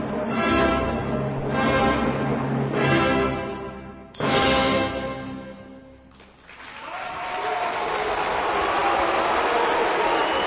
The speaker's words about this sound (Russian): Как вы слышали, несколько выкриков неодобрения «Бу!» потонули в аплодисментах.